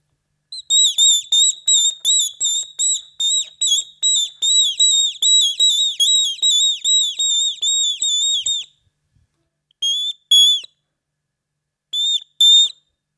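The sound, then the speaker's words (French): A father whistles an imitation of a tit's song: a long, steady run of quick, shrill repeated notes, then silence and two short final bursts. No one talks. “Et là, c'était la mésange.”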